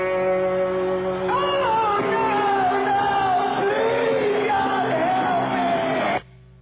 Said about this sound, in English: scream, oh God.